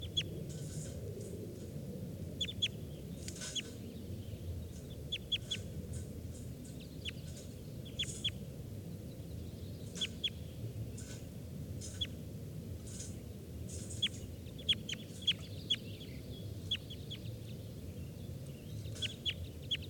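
A perched wild bird calls repeatedly, sharp high chirps and short clucking notes in irregular bursts, over a steady low outdoor rumble.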